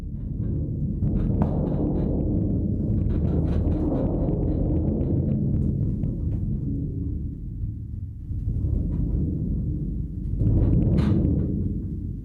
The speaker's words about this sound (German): Er hat einen Schlägel in der Hand. Er steht neben einer großen Trommel.